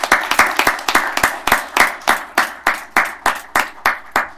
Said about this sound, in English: So the multifamily staff who are here, if you could stand, please. Let's suspend the rules and give them a good round of applause.